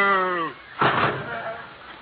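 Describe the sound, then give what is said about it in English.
A cow gives a short, falling moo lasting about half a second. A brief noisy clatter or thump follows, then the sound fades into a faint background hiss. “Ask her. She's a cow.”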